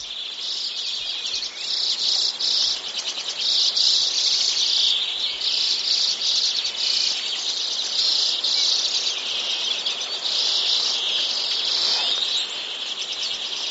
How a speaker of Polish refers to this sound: Jeśli zastanawiają się Państwo, jakim ptasim głosem właśnie Państwa uraczyliśmy, to jest to głos czeczotki.